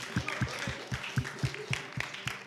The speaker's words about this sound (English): Amen. Let's give a clap offering to Jesus. I like clap offerings.